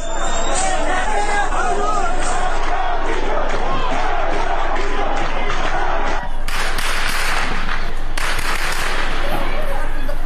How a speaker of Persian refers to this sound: از سوی دیگر تصاویر دریافتی از مهاباد در روز پنجشنبه نشان می‌دهد که تجمع شمار انبوهی از شهروندان معترض در مقابل فرمانداری این شهر با تیراندازی شدید و ممتد ماموران به سمت معترضان مواجه شد.